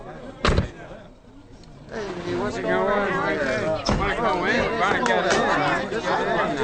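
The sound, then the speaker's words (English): A sharp bang rings out, then a dense crowd chatter swells in, many overlapping voices murmuring and calling at once, steady, with another brief thump partway through; a crowd gathered out front of a bank that looks like a run on the bank. “There's a crowd out front.”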